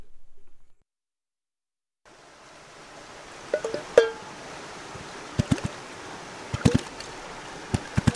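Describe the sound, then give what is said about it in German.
A forest stream flows with a steady rushing hiss, broken by several sharp knocks and taps as a man crouching at the water strikes an old tin can on the flowing water and on a stone, searching for a rhythm. It starts after a brief low rumble and a moment of silence. “Ein Bach im Wald.”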